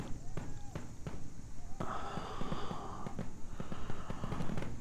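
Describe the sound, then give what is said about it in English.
A steady series of sharp pops and cracks, fireworks going off in quick irregular succession, with murmured voices and a dull background hum underneath. “Fireworks.”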